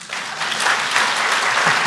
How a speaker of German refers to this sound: Applaus.